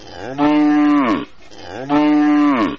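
A cow moos twice, loud, each low drawn-out call lasting under a second with a short pause between them, and no other voices or sounds around them.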